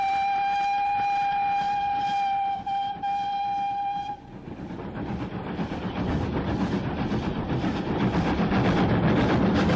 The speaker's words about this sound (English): There are no signals on this line, but the driver sounds a warning whistle to the photographers who are by the line side.